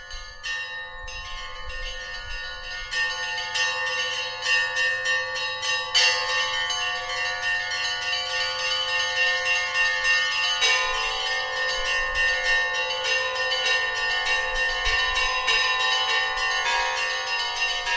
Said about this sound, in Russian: Как возник колокольный звон? Что известно науке о первых образцах колоколов и как это явление развивалось в дальнейшем?